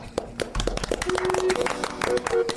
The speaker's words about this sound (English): Clap.